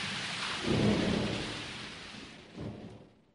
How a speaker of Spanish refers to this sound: Esta noche tiene lugar una terrible tormenta. Está lloviendo. Hace una noche de perros.